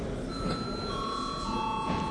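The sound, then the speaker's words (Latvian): An electric bell rung before deputies vote on a faction's proposal rings steadily for about two seconds, a continuous high, ringing tone held at an even, moderate level without pauses or speech. “Lūdzu zvanu.”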